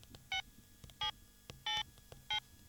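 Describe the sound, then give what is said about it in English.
Four short electronic keypad tones from a mobile phone being dialed by a policeman calling for a helicopter, spaced at a steady, unhurried pace. Each beep is clear, with only a faint low rumble between them. “One of the policemen took his mobile phone and phoned for a helicopter.”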